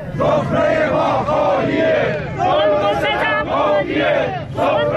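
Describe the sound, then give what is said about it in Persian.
A large crowd of protesting retirees and pensioners in Iran chants loudly in unison, rising and falling in repeated rhythmic phrases with many overlapping voices shouting together throughout. “دیروز اینجا بازنشستگان معترض در تهران مقابل مجلس و در شهرهای بزرگ دیگر ایران در تجمعاتی اعتراضی شرکت کردند.”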